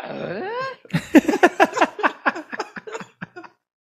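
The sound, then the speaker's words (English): A drawn-out, wavering vocal whine gives way to a quick string of choppy, grunting vocal bursts that sound a bit like a fart, loud, with no clear words. “Can you imagine that that's what Tim Allen's farts would sound like?”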